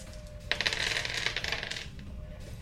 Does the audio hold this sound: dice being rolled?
yes